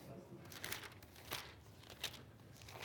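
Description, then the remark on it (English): Paper pages rustle and flip in quick, irregular bursts, a crinkling swish repeated several times as someone leafs through a thin-paged paper Bible to find a passage. “See, this is the old school. There's paper involved. It just takes a long time to find it.”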